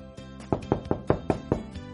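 A series of about six evenly spaced knocks on the door of Miaomiao's home, fairly loud, with a couple of softer taps at the start and end and no voices.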